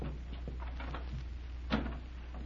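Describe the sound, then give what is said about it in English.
A room door is opened quietly: a few faint scraping creaks, then a single sharp latch click near the end, over a steady low hum with no talking. “Open the door and see.”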